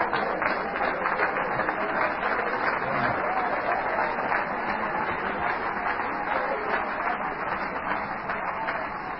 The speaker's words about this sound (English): Oh, clap your hands to Him.